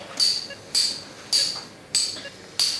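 Five sharp hammer strikes land at a steady, unhurried pace, each a crisp tap with a bright metallic ring, as a surgeon hammers on an exposed knee bone during an operation by a team of medics.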